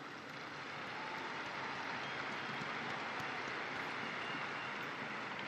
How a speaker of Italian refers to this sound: Un saluto caloroso rivolgo alle nuove guardie svizzere e ai loro familiari in occasione della festa di questo storico e benemerito corpo. Un applauso alle guardie svizzere.